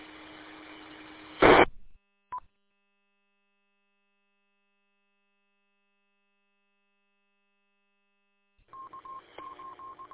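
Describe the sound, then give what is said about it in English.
Radio static on an amateur radio repeater link ends in a sharp squelch burst and a short beep, followed by silence, then a rapid train of DTMF touch-tone beeps over hissy radio noise. No one speaks. “Yeah, I've been trying to wait a couple seconds after each train.”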